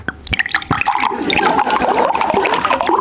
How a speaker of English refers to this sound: Do you want some water, everybody? No. Oh. But this is really like ASMR, pouring it and listening. Oh, is that a thing? Like, the water bottle.